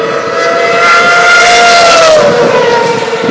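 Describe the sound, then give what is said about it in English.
Loud, high-pitched scream of Formula One engines at the Silverstone circuit, a continuous roar whose pitch sweeps downward as a car passes, with no voices. “I have no idea if the noise here, if this is coming across, but the noise is just incredible.”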